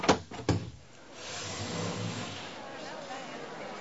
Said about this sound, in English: Then they opened the door to the temporary Senate hall.